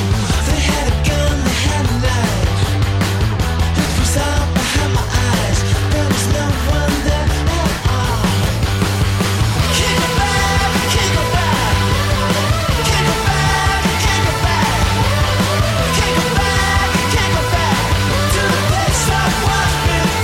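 A loud rock song plays continuously, with driving drums, heavy bass, layered guitars and a sung vocal line, dense and full throughout with no pauses.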